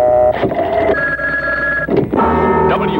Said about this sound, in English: We're making our Fortune Phone call right now for $565.